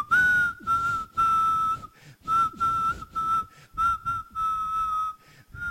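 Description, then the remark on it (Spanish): Someone whistles a song melody in a single tone, holding a steady, nearly unchanging pitch in phrased bursts separated by short breaths, with no talking. “Yo silbo así entonces. Yo silbo un solo tono.”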